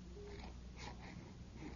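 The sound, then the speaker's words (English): A bloodhound named Prince makes a few short snorting, wheezing huffs, quiet but steady against a low background rumble, with no one talking. “Stupid dog.”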